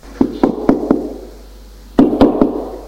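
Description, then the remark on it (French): A woman knocks on a door that stands ajar: four sharp knocks in a steady rhythm, a pause of about a second, then three more, fairly loud with a resonant wooden thump. “La porte est entrebâillée, elle frappe.”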